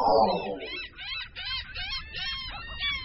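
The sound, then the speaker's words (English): A flock of hungry gulls at the beach calls out in a rapid, overlapping series of harsh, nasal cries, loud, over a low, rumbling background. “No trip to the beach would be complete without a swarm of hungry gulls.”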